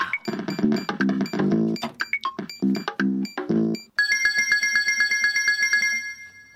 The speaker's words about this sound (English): The phone.